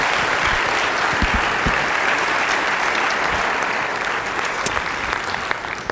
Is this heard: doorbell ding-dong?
no